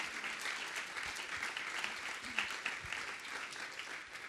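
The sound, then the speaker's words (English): An audience claps steadily, a dense wash of many hands at a moderate, even level that carries on for the whole stretch without anyone speaking over it. The applause is for the event's community partners KUOW, StoryCorps, FireSteel and Seattle University. “So I'd like us all to give a big round of applause for our community partners.”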